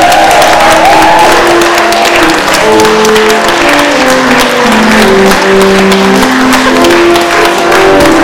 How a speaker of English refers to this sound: And please, can we have a round of applause for King Jesus?